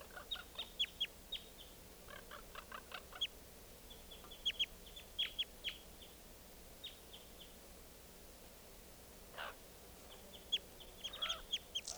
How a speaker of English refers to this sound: Flapping his bill now. Wild bird very weak.